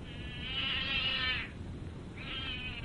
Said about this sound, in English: That damn cat of hers! I didn't mean to step on it.